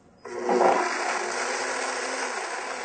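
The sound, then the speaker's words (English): A blender with its lid on kicks on abruptly and runs at a steady, loud whirring roar, churning almonds and 2.5 cups of water in a continuous grinding wash of noise, with no talking. “Put the lid on and I'm going to make a little noise with the blender.”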